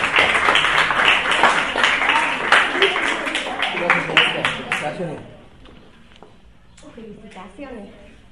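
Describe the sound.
A burst of audience applause, dense and fairly loud, carries on for about five seconds before fading out as a voice starts speaking.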